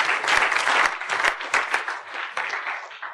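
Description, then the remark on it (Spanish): A church audience claps hands for the Lord in sustained, dense applause, many overlapping claps forming a steady loud wash that eases slightly toward the end, with no talking over it. “Dios, unas palmas al Señor fuerte, amén.”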